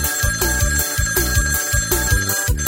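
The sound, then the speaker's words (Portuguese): A phone rings with rapid, bright bell-like trills repeating in a steady rhythm, loud, over a thumping musical backing with no voices. “Mas com o telefone está tocando. Atende aí que a gente querendo pular.”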